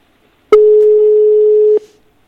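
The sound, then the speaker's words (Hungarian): A single steady electronic ringing tone on an outgoing telephone call, about one and a quarter seconds long, clear and fairly loud, starting and stopping abruptly with silence on either side. “Már csöng a telefon.”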